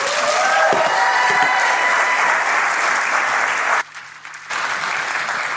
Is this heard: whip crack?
no